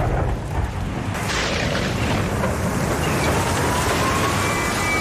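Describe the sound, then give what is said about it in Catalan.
Heavy rain pours down steadily with a deep, rolling rumble of thunder underneath, the downpour swelling suddenly after a second and staying loud and dense throughout, with no voices. “Protecció Civil alerta de fortes pluges i recomana evitar desplaçaments innecessaris.”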